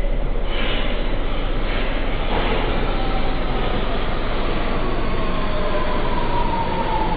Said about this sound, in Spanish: Mientras me apresuraba hacia el otro andén, en la plataforma de arriba escuché el sonido del tren aproximándose a la estación.